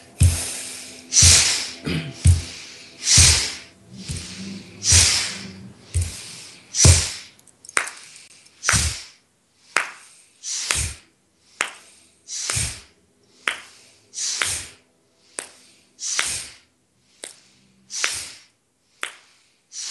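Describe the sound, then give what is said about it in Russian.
Breathing in and out over and over, ordinary inhales and exhales taken together in a group breathing exercise, each breath a loud, airy rush arriving at a steady, fairly quick pace, with no talking. “Мы сделаем обычный вдох, обычный выдох. И вместе дышим.”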